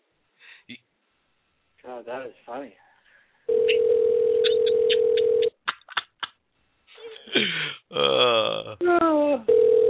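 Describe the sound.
A steady, unbroken telephone dial tone hums for about two seconds, low and loud, between stretches of tinny, phone-filtered talking, with a few short clicks and beeps around it, as a host dials a guest's number to get him back on the Leaving the Ring radio show.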